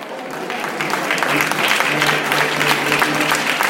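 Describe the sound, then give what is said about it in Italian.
Steady final applause from an audience after a performance at the Geografie Umane exhibition at the Exma, where actors mixed with the public. A dense, even patter of many hands clapping at a fairly loud, constant level throughout, with faint murmurs of voices mixed in. “Io ho atteso la fine dell'applauso finale e ho raccolto qualche impressione.”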